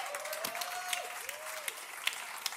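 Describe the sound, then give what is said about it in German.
Applause from a group for someone's good work, a dense, steady patter of many hands clapping for the full couple of seconds, fairly soft, with a faint gliding whistle-like tone rising and falling underneath. “das war Applaus für dich, weil du machst deine Arbeit so gut.”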